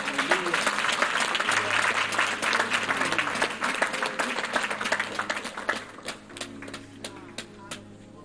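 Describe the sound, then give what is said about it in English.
An audience at a church service bursts into loud, dense applause for Jesus, many hands clapping rapidly together before thinning to scattered claps at the end, with a low sustained organ-like hum underneath. “Someone give Jesus a clap.”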